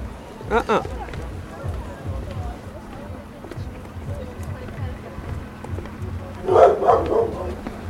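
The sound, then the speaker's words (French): A dog barks outdoors, a single sharp bark near the start and then a louder cluster of barks toward the end, over a steady low rumble of background noise. “Non, tu peux pas aller voir ce chien-là”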